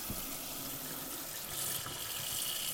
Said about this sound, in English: Notice the sound of the water as it starts to run.